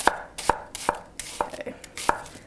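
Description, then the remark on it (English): A knife chops the last onion on a cutting board in a quick series of sharp knocks, about five distinct strikes at an uneven, steady pace with soft crunches between. “Chopping that last one up.”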